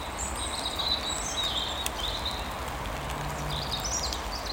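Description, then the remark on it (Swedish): A European robin sings thin, high, warbling phrases in short bursts with brief pauses in the rain, over a steady bed of soft hissing background noise. “Och så rödhaken. Och visst, den har hörts nu och då, vintern igenom. Men den har en annan ton nu.”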